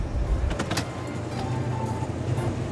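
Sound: car door opening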